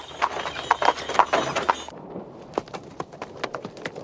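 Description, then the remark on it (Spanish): Horse hooves clip-clop in a steady rhythm as a horse is ridden up to a burned church, the hoofbeats thinning to slower, separate clops partway through as the rider dismounts, with no voices present. “Al día siguiente, Juanito llega a caballo a la iglesia quemada y desmonta.”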